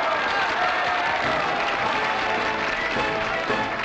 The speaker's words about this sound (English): Who will join me in cheering my brave comrades who have made this achievement possible? Bravo!